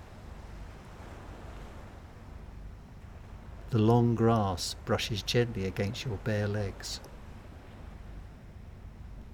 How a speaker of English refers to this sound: As you approach the sand dunes, you can make out the sounds of waves on the other side of the dunes.